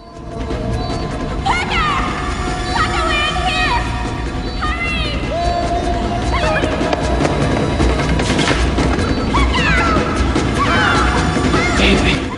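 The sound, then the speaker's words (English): Glass in a door is smashed by the character Parker Barnes, an LAPD officer, in a film scene: a loud crash set in a dense, chaotic action soundscape of thuds, whooshes and sweeping tones that runs continuously throughout. “Barnes smashes the glass in a door and throttles a guard from behind.”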